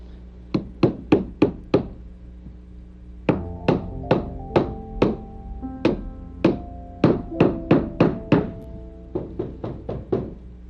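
Sharp, ringing hammer blows on wood, struck in quick bursts of four to six hits with short pauses between, loud with no voices.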